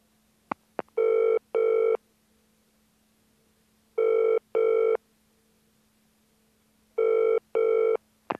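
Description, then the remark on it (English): A phone line rings with the classic double-burst tone, three pairs of electronic rings spaced evenly apart, clear with a faint line hum between them and no voices. It is a call to a travel agent for flight information. “You are ringing the travel agent to get some information about flights.”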